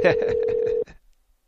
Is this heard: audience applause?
no